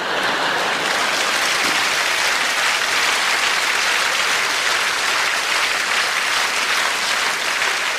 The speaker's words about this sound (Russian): Жидкие аплодисменты.